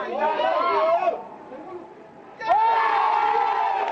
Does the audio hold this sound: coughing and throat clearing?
no